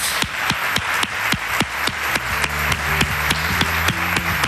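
A large audience in a full theatre in Granada, at a COPE radio event, applauds steadily, dense clapping filling the space, with sharper claps landing in a fairly regular rhythm throughout; a low musical hum creeps in partway through.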